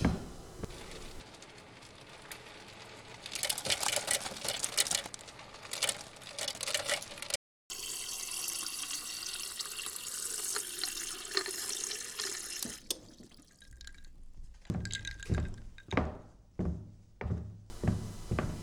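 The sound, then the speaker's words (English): Tap water runs steadily into a glass for an ice water for several seconds with a brief break, followed by a series of short, evenly spaced clinks or thunks. No one speaks. “Here you go, one ice water.”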